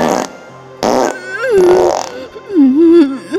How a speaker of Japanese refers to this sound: ああ、出る。粘土みたいな便秘ぐそが出るの。